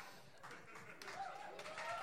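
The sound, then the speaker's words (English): A steady wash of applause fills the moment, dense and hissy, with whoops and cheering voices rising through it toward the end. “I appreciate the applause breaks, but we've got to get through more questions.”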